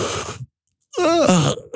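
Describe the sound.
A person imitates a yawn: a breathy inhale, a short pause, then a drawn-out voiced sigh sliding downward in pitch, fairly loud, with another breath at the end.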